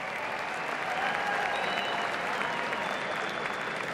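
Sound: thunderous applause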